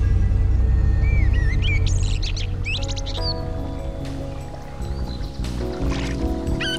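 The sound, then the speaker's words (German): A babbling brook at the edge of a forest somewhere in the Rocky Mountains rushes steadily, a continuous watery wash, while birds chirp and trill intermittently overhead and a faint tonal hum drifts in during the second half. “Ich sitze gerade auf einem Stein am Waldrand in der Nähe eines plätschernden Baches irgendwo in den Rocky Mountains”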